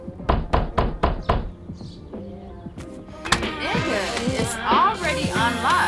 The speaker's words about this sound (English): Why you beating on the motherfucking door like you the police or something?